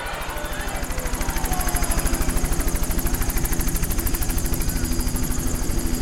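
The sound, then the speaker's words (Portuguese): A Brazilian Air Force helicopter lands to rescue a journalist, its rotor blades thudding in a fast, steady rhythm over a loud engine whine, the sound holding strong and even as it hovers and settles down. “Um helicóptero da Força Aérea Brasileira pousou para resgatar o jornalista e tirou ele dali, levando até o navio cruzador Barroso, na entrada da Baía de Guanabara.”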